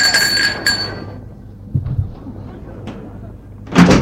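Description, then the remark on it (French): Someone rings at a gate, and a servant opens the gate door: a bright ringing tone at the start fades out, followed by a few soft knocks and a sharp, loud clatter near the end. “Denis sonne à la porte du portail.”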